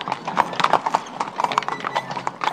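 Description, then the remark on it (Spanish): Horse hooves clop on a hard surface in a quick, uneven rhythm as a horse-drawn cart stops in front of a farm, fairly loud, a steady run of sharp knocks with no voices. “Ataré el caballo al poste de la valla y entraré en el patio.”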